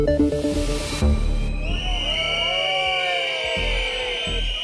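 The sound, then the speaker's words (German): Protesters against the Stuttgart 21 rail project, opposing the start of main works on the underground station: many shrill whistles blow at once from the crowd, overlapping and wavering in pitch over a steady low rumble, after a brief opening of droning, machine-like tones. “So klingt es, wenn gegen das Bahnprojekt Stuttgart 21 protestiert wird. Die Pfiffe richten sich gegen die Hauptarbeiten für den umstrittenen unterirdischen Bahnhof, die heute losgingen.”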